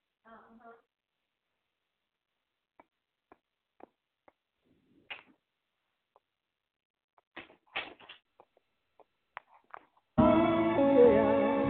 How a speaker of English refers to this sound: Can you close my door, please?